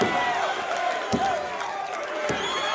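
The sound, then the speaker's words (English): A large wrestling arena crowd roars and cheers steadily throughout a match in which Jake the Snake has just dropped El Corsario, with two heavy thudding impacts landing about a second apart beneath the noise. “And listen to this crowd. They love it.”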